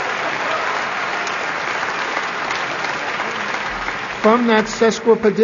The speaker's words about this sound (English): From that sesquipedalian reference, hippopotamonstrosesquipedalio, and I think I deserve a round of applause for that, don't you?